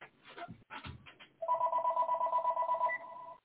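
After a brief clatter, a telephone bell rings in one continuous loud trill lasting about two seconds, a bright, rapidly pulsing metallic tone that then cuts off.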